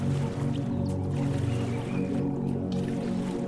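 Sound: boat gliding through water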